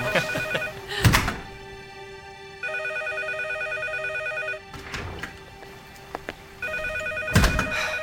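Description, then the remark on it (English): A telephone rings in long, repeated bursts of bright, steady tone, clear, with a few heavy thumps landing between the rings. No one speaks. “What about the phone? If we hurry, it'll probably stop ringing.”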